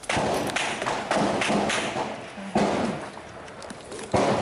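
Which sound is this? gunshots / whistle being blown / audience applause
gunshots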